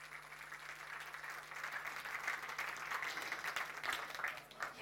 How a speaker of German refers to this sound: Eine große Runde Applaus bitte.